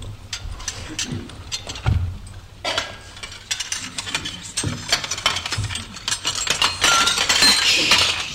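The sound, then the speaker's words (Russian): Dishes and glasses are cleared from a table in a steady clatter, with repeated clinks of glass and knocks of crockery, busy and fairly loud throughout. “Посуду со стола.”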